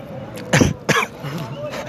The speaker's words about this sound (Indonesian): Batuk kan ya, akuanya masih banyak ya. Batuk banget dulu nih.